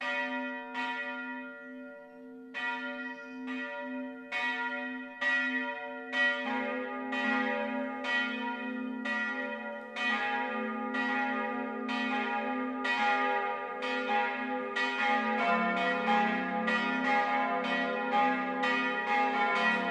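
Church bells of the Catholic town parish church St. Michael in Stadtsteinach, Upper Franconia, Germany, peal continuously for the 12 o'clock noon ringing, overlapping strikes in a steady rhythm with a deep humming tone beneath, building fuller and denser as more bells join. No voices.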